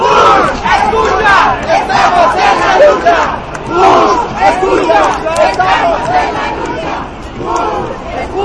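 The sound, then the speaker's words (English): A loud, dense crowd at an immigration protest, with a sign reading "Amnesty Now, legalization for all", fills the scene with overlapping shouts and raised voices, a constant roar of many people with rising bursts of yelling throughout. “It's getting harder to hear now. It's so loud.”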